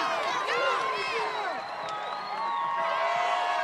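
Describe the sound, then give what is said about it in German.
A crowd of high female voices cheers and whoops over one another in a continuous, loud burst, with rising and falling shrieks layered throughout. “Und das Gejubel, was Sie am Anfang gehört haben, das sind natürlich Cheerleaderinnen.”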